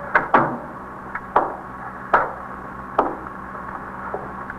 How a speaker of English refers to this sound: Should I close the door? Yes, please.